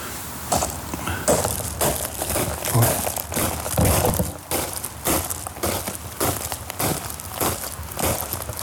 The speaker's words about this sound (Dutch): Nou, ik vind niks mooier dan lopen door grind. Ik hoop dat ik geen mensen wakker maak als ik nu toch even door het grind ga lopen. Even proberen, hoor.